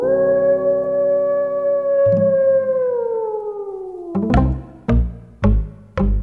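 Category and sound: animal, wolf howling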